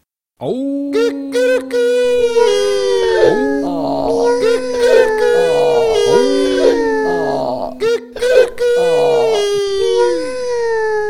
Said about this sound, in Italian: Allora, con gran fragore, si misero d'improvviso a ragliare ed abbaiare, a miagolare, a cantare.